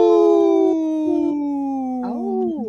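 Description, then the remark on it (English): A comedian on a radio show imitates a wolf howl, one long sustained wavering note that slowly falls in pitch, then lifts briefly near the end before trailing off, loud with no other sounds. “Okay, we had one of the comedians howl,”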